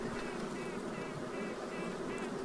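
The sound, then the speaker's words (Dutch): Honeybee queens quacking from inside their cells, a series of short, evenly spaced nasal pulses repeating rhythmically over a steady, dense hum of the colony, fairly loud, with no talking. “En ook zij maken een geluid om dat duidelijk te maken aan de kolonie. Zij beginnen te kwaken.”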